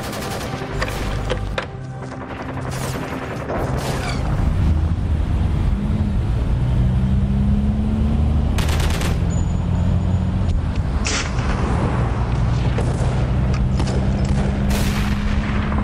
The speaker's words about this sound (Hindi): धमाके की आवाज थी जी मोहतरमा, गोलियों फायरिंग की आवाज थी।